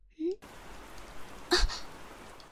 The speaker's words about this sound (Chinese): 啊！看，我就说吧，下雨了，快过来吧。来，哎呀，真是的！刚才我就说了要下雨，让你快点进来，还不进来？